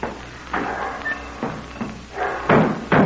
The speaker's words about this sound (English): Oh, don't you know when you slam a door, you shatter my nerves?